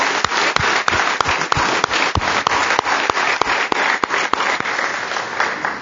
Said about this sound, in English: If you served, if you taught, if you played music, I mean, it's just served in any way, I want to say a big thank you, and you deserve a great big round of applause.